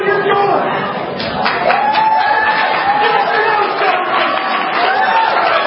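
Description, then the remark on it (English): A large crowd of voters at a town hall in a Republican leader's hometown shouts and jeers at once, many raised voices overlapping in a loud, continuous roar with a few voices rising above the din, sustained throughout. “Emotions running high as Republican leaders face the music from the crowds in their hometowns like this.”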